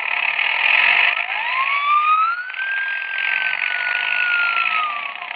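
A police motorcycle's wailing siren rises and holds steady over its droning motor engine, loud, continuing without pause and with no voices.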